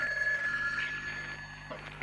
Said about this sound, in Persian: تلفن زنگ زن.